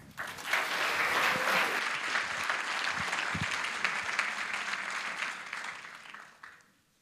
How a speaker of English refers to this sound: Would you give a warm greeting, a warm round of applause to …?